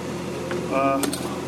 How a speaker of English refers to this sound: That sound you hear in the background is just the sound of cooking meat, I think, on the stove. So you're searing them, and then you're going to put them in the oven.